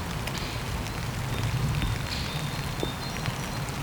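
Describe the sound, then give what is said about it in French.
Light rain patters steadily on the bare trees of a forest beside a stream, a soft continuous hiss with scattered individual drops ticking, no voices present. “Une pluie fine qui s'abat sur la forêt des arbres dénudés au bord d'un ruisseau.”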